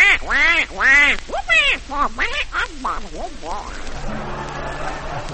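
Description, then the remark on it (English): A rapid burst of loud duck quacks, about a dozen nasal calls tumbling over each other, then trailing off into a soft, noisy background with faint low tones. “The ducks are swinging.”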